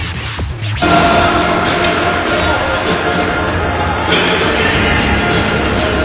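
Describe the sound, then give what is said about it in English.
A loud, steady roar of crowd noise, including the Gloucester High School student body, at the Talbot Rink at the O'Malley School in Gloucester, dense cheering and chatter without pause, swelling slightly about a second in and staying full throughout. “Well, you can hear, we're back live. Very nice crowd tonight, representing Gloucester High School student body.”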